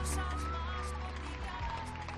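Steady, dense hiss of falling rain fills the scene, with applause blended in and largely drowned out, a continuous wash of noise throughout; people in Granada, Spain, applauding healthcare workers in the rain.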